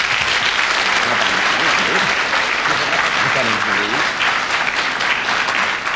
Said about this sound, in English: Quite right. I'm glad that got the spontaneous round of applause we all expected.